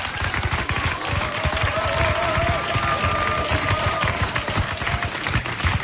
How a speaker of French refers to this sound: Applaudissements